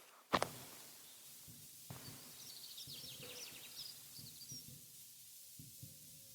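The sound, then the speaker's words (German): Low, soft pigeon cooing repeats every second or two outdoors, with faint small-bird chirps above and a brief sharp knock near the start against quiet open-air ambience. “Tauben sind auch hier, die scheiß Punks der Lüfte.”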